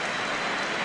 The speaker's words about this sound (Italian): Applausi del pubblico rossonero per El Shaarawy, che comunque diciamo è un prodotto del Milan, del vivaio del Genoa.